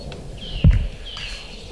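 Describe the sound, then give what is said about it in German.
A goshawk gives two drawn-out, high calls in quick succession, fairly clear against a quiet outdoor background, with a brief low thump between them. “Er liegt wirklich links und mich nur diesem Habicht zu widmen, dessen laut Rufe gut vernehmbar sind.”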